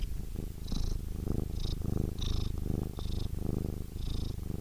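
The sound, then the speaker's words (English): A cat named Frankie purrs, a steady rumbling vibration that pulses in rhythmic waves with each breath in and out, with no talking. “Anyway, here's my cat.”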